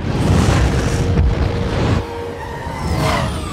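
Loud, rumbling explosions from a superhero movie fill the first two seconds with dense low-end roar, then ease into a softer swelling rumble with faint whooshing tones rising near the end.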